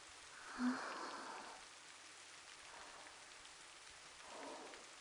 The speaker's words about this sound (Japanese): 雨が強くなってきましたね。今夜は荒れそうです。